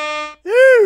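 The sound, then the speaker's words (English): Two loud air horn blasts in quick succession: a short, steady, flat honk, a brief pause, then a longer blare that bends up and back down in pitch. “Give me the air horns for people on time.”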